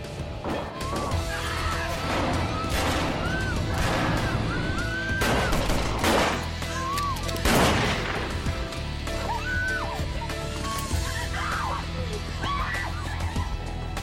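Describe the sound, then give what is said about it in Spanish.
Several sharp gunshots ring out at irregular intervals inside an airplane cabin during a hijacking, over a dense, chaotic background, with high wavering cries or shouts rising and falling between the bangs. “Dentro de la cabina, Rezaq oye disparos.”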